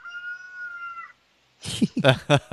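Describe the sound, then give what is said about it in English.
A single crow from a pet rooster named John Cleese, which has a limp: one sustained, steady, fairly high-pitched call of about a second, followed by a short pause and then people starting to talk. “He usually crows three times, so you might hear him.”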